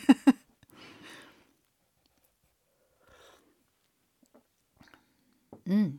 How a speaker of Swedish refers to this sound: Nu tar jag en klunk te och ett andetag och sen kör vi.